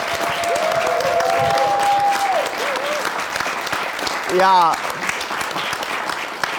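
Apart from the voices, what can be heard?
audience applause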